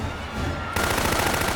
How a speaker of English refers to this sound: Jill and Peyton urge the crowd back as Kane's men open fire on the defenseless crowd.